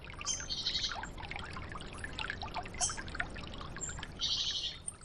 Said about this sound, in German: in Feuchtgebieten der Gesang der Frösche, das Plätschern im Schilf.